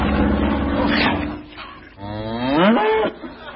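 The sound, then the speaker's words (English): A herd of cows on a runway mooing loudly, two long, drawn-out low moos one after another, the second rising in pitch before breaking off, with no voices present. “See the way he's keeping his weight with that herd of cows on the runway.”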